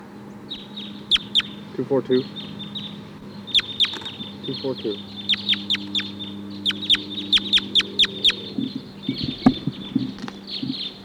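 A huge flock of about 14 or 16 wild crossbills chittering in the treetops, some starting to come down: many sharp, high 'kip' calls in quick irregular bursts and clusters, fairly loud, over a steady low hum in the background.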